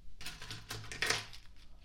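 A bunch of keys jingles, a quick run of bright metallic clinks and rattles lasting under two seconds, fairly soft, with no one talking over it.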